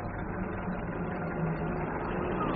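A taxi cab's engine idles steadily with a low, continuous rumble and a faint mid-range hum, holding an even level throughout with no voices.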